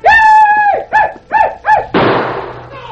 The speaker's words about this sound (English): An Indian gun barked once, and Berkey fell.